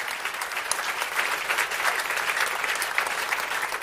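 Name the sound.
audience clapping in praise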